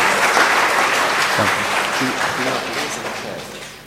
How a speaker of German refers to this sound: Vielleicht einen kleinen Applaus zu seiner Ermutigung.